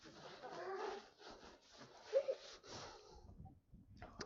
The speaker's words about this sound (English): Just for the recording, that was me blowing my nose, okay? It wasn't an earthquake.